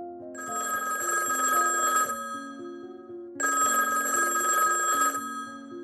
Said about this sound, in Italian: Una mattina il telefono squilla impertinente negli uffici della Mattel.